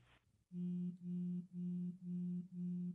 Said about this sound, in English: I just called that other number on my cell phone. Did you hear the vibrate?